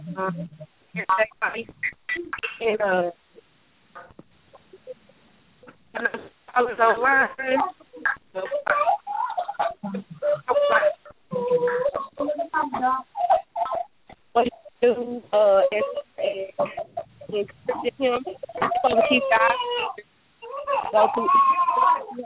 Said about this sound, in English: Hold on, some callers, somebody online has kids in the background.